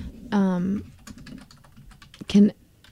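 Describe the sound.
Rapid, light key clicks from a computer keyboard patter steadily throughout, with two short bursts of voice sounding over the typing.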